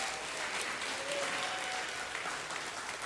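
A crowd claps steadily in a dense, continuous wash of applause that holds at an even level for about three seconds, with no voices standing out.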